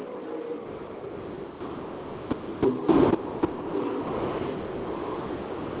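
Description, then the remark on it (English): A dense, buzzing roar of dash-series race cars accelerating together on a double-file restart with four laps to go, holding steady throughout with a brief louder surge and a few sharp bursts midway, no voices. “Thrash stomping it through the floorboard there on the restart”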